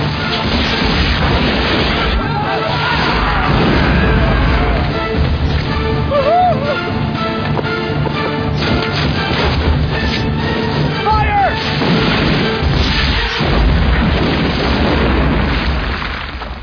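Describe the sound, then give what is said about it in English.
Loud cannon fire booms again and again in a dense, chaotic barrage, the heavy blasts overlapping with rumbling noise and faint shouting voices throughout. “Fire! Hold the last cannon!”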